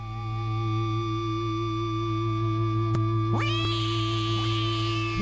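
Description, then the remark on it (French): A steady, humming musical drone plays throughout, and about halfway in a cat lets out a loud, rising meow, followed by a shorter meow just before the end: the opening of a music track that starts with cats meowing. “Le titre qui démarre comme ça avec des chats qui miaulent.”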